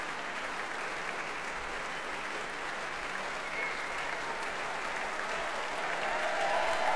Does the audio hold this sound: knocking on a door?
no